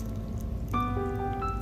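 Coconut water pours steadily into a bowl of blueberries, strawberries and pomegranate over a low background rumble, a hollow ringing tone joining partway through as the stream continues, moderately loud.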